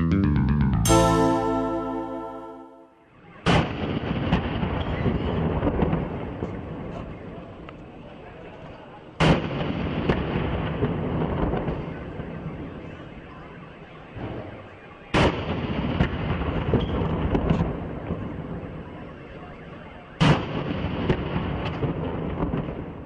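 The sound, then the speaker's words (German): After a brief musical tone, four loud ceremonial cannon shots boom out at steady intervals of about six seconds, each followed by a long rolling echo. They are part of a 21-gun salute in Peru opening celebrations of the 100th anniversary of the discovery of the Inca fortress Machu Picchu. “Mit 21 Kanonenschüssen hat Peru in diesen Tagen die Feiern zum 100. Geburtstag der Entdeckung der sagenumworbenen Inka-Festung von Machu Picchu begonnen.”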